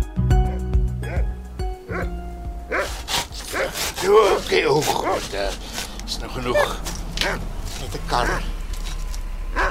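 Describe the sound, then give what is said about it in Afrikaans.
A dog barks in short, repeated bursts, with some whimpering yips, preceded by a few sustained tones and accompanied by voices in the background. “Dan geleer om vir elke leerling te blaf.”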